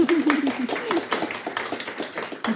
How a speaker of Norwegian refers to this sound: Ja, vi må ta med den applausen vi får.